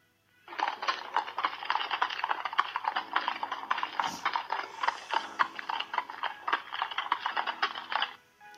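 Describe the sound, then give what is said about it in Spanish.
Steady clip-clopping of horse hooves pulling a carriage, with a busy rattling rhythm that runs for several seconds at moderate loudness, with no voices. “Le comunican que Rochester está vivo y lejos de allí, un coche de caballos le acompañará donde reside.”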